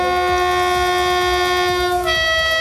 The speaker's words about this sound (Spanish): Lo están haciendo con retrasos y con el respeto que supone volver a pasar por Adamuz, donde hace un mes perdieron la vida 46 personas. Algunos trenes tocaban sus bocinas al pasar por ese punto.